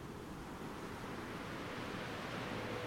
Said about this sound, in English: Perfectly comfortable and toasty, with just the waves in your ears, and not a soul in sight.